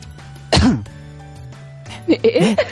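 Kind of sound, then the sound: human body sound, coughing fit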